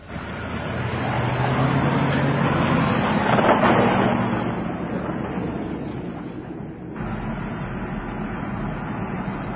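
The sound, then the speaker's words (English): A car engine hums steadily with road noise as it heads for the highway, swelling louder in the middle as it drives, then settling into a constant, continuous roar. “Head for the highway.”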